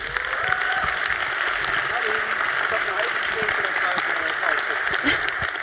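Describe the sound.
An audience in a hall applauds to welcome a speaker before her talk, a dense, even patter of many hands clapping that holds at a constant loudness throughout, with faint murmuring voices mixed underneath.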